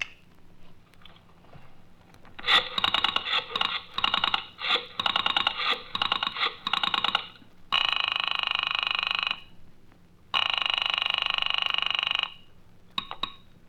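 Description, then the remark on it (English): A burst of rapid mechanical clattering and clicking, like a call connecting, gives way to two long, loud telephone rings separated by a short pause, from a phone call heard from both ends spliced together. No one speaks. “Now, this is the phone call as heard from both ends, Charlie.”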